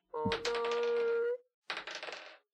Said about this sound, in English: Oh, no. It's rolling so much. I know. I'm so scared. Sometimes I think he only rolls one dice, but then rolls 17 others just to confuse us.